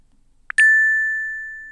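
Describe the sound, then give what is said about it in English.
A brief tap is followed by a single bright electronic ding, a thermometer's preset temperature alarm tone, that rings out as a steady, clean tone and slowly fades over more than a second, clear with no talking. “Temperature alarm presets beeps. Ding.”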